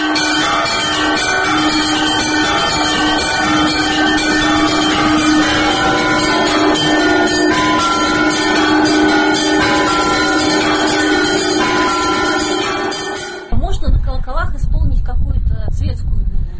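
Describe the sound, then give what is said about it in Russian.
Church bells peal loudly, many overlapping bronze tones ringing together in a dense, continuous wash for about thirteen seconds before cutting abruptly to a low rumbling noise. “Здесь уже зависит от того, какие колокола.”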